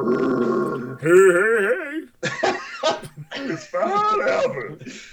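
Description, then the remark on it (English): A voice mimics a whale call: a low hum, then a loud warbling, wavering tone that glides up and down for about a second, followed by a few seconds of talk. “I hear a whale sound.”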